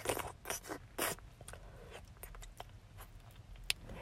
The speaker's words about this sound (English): You're buckling up your belt. I like the sound of that.